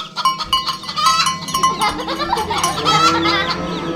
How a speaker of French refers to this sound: Imaginez face à vous une basse-cour, avec toutes les volailles, des clapiers à lapins, plusieurs cochons logés dans le couder, quelques vaches, et puis des cris d'enfants.